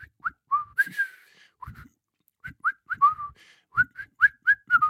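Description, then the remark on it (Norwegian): A hospital employee changing in the locker room in the evening after floor work whistles a quick, bouncy tune in short chirping notes, clear, with brief pauses between phrases and faint low rustling underneath. “Og det noe med den plystringen etter gulvarbeid, som jeg føler ekstremt internasjonal.”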